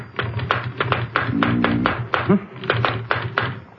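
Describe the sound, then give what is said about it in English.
Rapid, irregular mechanical typing on a typewriter at a desk, with sharp clacking keystrokes in quick bursts, fairly loud, with a low hum and brief murmured voice beneath. “More particularly, the typewriter on it. I think we might try a little experiment.”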